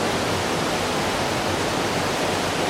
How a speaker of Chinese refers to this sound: 当我走到那个下水道的那个很水流很大的区域的时候，你基本上我就听不见他在说什么。这水流声可以大到就是覆盖了一切，而且这个水流声，我可以给大家放一小段这个水流声吧。这个水流声听起来就跟一个白噪音一样，就非常大。